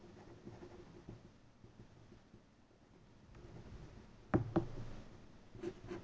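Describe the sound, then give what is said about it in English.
Quiet scratching and rustling of someone writing notes on paper, with a couple of sharper taps partway through and no talking. “Just writing it down.”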